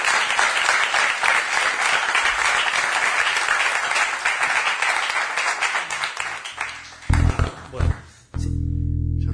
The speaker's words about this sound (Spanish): ¿Sabes que se me durmió la mano recién aplaudiendo?